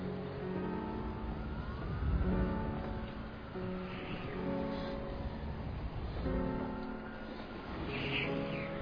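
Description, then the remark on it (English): Emergency sirens wail in rising and falling sweeps, fairly loud and continuous over a low rumbling background, as if the vehicles are drawing near. “The sirens are close now.”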